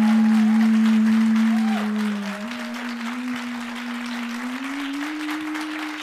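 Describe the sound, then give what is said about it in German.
Audience applause for a question about how long they would survive in the forest, a steady wash of clapping lasting about six seconds, with a sustained low tone droning underneath that slowly rises in pitch toward the end. “So, wer jetzt euer Applaus für Guidos Frage danach, wie lange wir im Wald überleben würden.”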